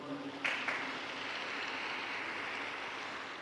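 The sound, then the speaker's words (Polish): A crowd claps steadily in sustained applause sending Christmas wishes to Eastern Christians, Catholic and Orthodox, a dense wash of many hands that swells briefly near the start and then holds at an even, loud level with no voices. “Przekażmy im życzenia oklaskami.”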